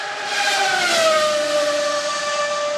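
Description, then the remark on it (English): A Formula One turbocharged V6 engine, combined with electric motors, screams with a loud, high, buzzy whine over a hiss of roaring noise, its pitch sliding downward after the first second and then holding steady. No one speaks. “turbochargers, and a V6 engine. They kind of sound futuristic in a way. I like the sound of them.”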